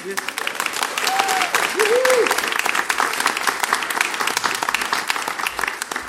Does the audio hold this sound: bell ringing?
no